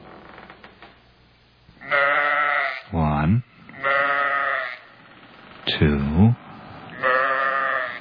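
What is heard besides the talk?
sheep bleating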